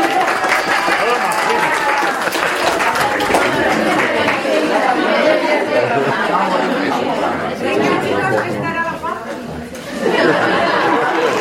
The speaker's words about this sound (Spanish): ¿Quién tiene la respuesta correcta? ¡Gryffindor! ¡Bravo, Gryffindor! ¡Un aplauso para Gryffindor!